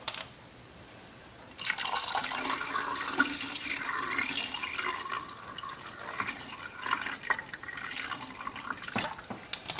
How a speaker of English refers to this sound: And the fixer is next. Again, this is something that we can reuse, so I'm just going to pour it straight in.